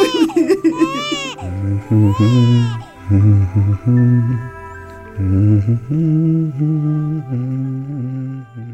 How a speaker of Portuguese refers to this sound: Faça esse bebê parar de chorar, senão eu enlouqueço.